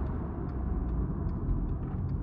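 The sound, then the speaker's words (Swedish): A car's low, steady engine and road rumble fills the whole stretch at an even level with no voices, as the vehicle rolls toward a stop. “Mamma stannar bilen vid Malena, som ser upp.”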